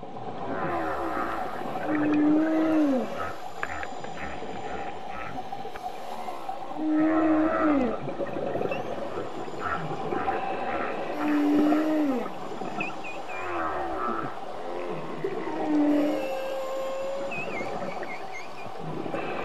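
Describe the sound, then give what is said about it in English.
Whale calls repeat every few seconds, long rising and falling moans with tonal sweeps over a constant murky underwater rumble, no voices present. “This is for whale sounds.”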